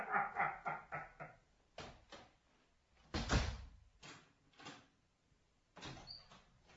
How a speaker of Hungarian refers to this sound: Jó lesz, ha bezárja maga után az ajtót.